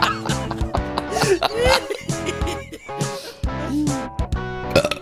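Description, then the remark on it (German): A loud, drawn-out burp rumbles, breaking into several voiced, wavering bursts over a few seconds with short gaps between them. “Nach Weihnachten kommt der Rülpser bei.”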